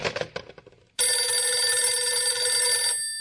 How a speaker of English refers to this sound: I've got to sit here in my bed every time the phone rings suffering.